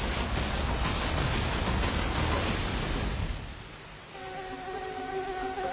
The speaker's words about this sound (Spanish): El mosquito no se toma vacaciones.